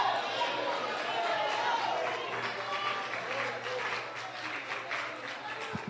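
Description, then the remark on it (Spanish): A crowd applauds people as they come to the front, steadily for several seconds, a dense wash of many hands clapping at once with a murmur of voices underneath. “Déjense de estar aplaudiendo a la gente cuando pasan al frente.”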